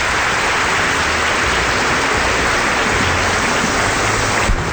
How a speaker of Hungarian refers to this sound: Kedves népem, itt vagyunk a palotában, ahol a légkondicionál, amit halljátok, jól működik.